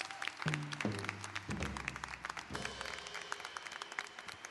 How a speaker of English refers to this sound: Now, they've been sitting down, they're hiding, but they've been amazing. The Salvation Army Band, please, can we clap for them?